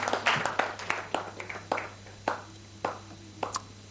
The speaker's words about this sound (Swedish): Ge henne en applåd.